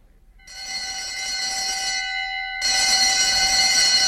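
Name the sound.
alarm bell ringing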